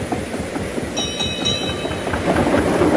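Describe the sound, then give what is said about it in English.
Train engines roll steadily along the rails with a dense, low rumble and rattle that swells slightly toward the end, broken briefly by a thin, high metallic squeal from the wheels. “The engines made good time.”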